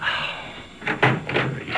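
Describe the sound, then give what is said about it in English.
A door is pulled open and stopped short by a security chain, giving a few quick rattling clacks and knocks, with no one speaking. “Well, take the chain off and let me in.”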